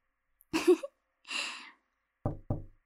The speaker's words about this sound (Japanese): ん？ノックの音。誰か来たみたいですね。